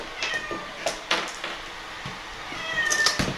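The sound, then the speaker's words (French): A cat meows several times, its calls rising and falling in short, whiny bursts, with a few soft clicks and taps. “Qu'est-ce que t'as, toi ? Le chat d'amour.”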